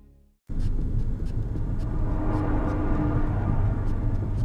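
car engine running

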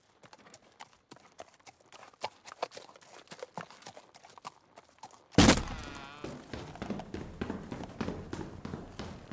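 horse hooves clip-clopping

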